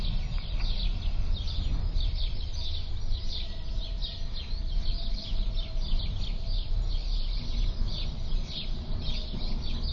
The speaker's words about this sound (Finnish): Oho. toisen päivän aamu. Ihan ihmeellisiä linnun ääniä ekkoat kiekko. Kello 6.30.